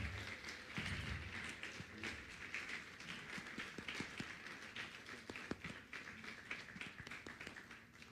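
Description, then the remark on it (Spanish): An audience applauds a guest preacher steadily for several seconds, a dense wash of many hands clapping at once, with individual sharper claps popping out of the even crackle. “Y bueno, vamos a dar un aplauso”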